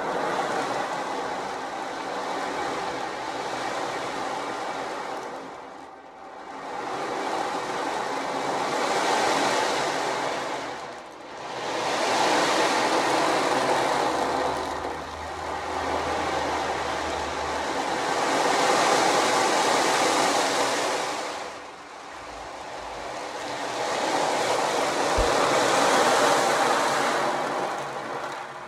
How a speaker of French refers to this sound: Les gouttes de pluie formaient un torrent d'eau qui imitait le son d'un océan déchaîné.